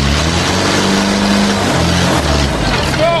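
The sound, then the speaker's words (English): A loud engine roars steadily at high revs at full throttle for the whole stretch, strained, with a dense wash of mechanical noise and faint background voices. “And the Muncher's still running at full tilt. Don't blow up the engine!”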